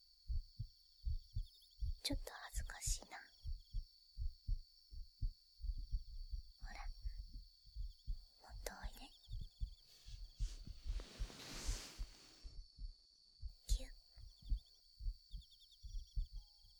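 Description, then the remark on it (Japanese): A steady heartbeat thumps in low, muffled double beats throughout, with soft whispered speech drifting over it and a faint high-pitched tone in the background. “心臓の音、聞こえるかな？あ、本当に聞こえるんだ。”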